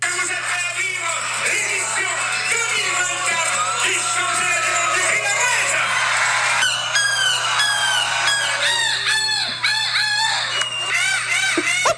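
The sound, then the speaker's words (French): A person imitates a seagull's cry at the 11th world championship of seagull-cry imitation, with loud, shrill, repeated squawks and wavering screeches that overlap continuously for the whole stretch, over a steady low hum. “Ça se tenait la 11e édition du championnat du monde du cri de la mouette.”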